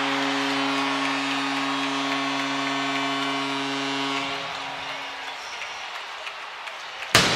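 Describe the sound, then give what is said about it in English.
A roaring hockey arena crowd after Boone Jenner's first-period goal gives the Columbus Blue Jackets a 1-0 lead, with a steady, droning horn-like tone beneath it that fades after a few seconds, then the goal cannon, the first of the night, bursts out in a single sharp blast right at the end. “Well, there's the cannon, the first one of the night.”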